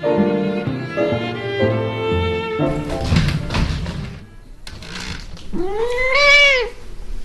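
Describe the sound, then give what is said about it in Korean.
A domestic cat, Nala, an internet-famous grey tabby in California, lets out one clear, rising-then-falling meow near the end, loud, after a stretch of sustained tonal sounds and some rustling, thumping noise. “첫 번째 이야기, 인터넷의 인기 스타 백만장자 고양이 날라.”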